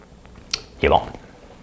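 A short slurping sip of hot coffee from a coffee maker, preceded by a faint click, with no talking.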